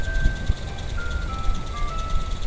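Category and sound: vehicle, ice cream truck jingle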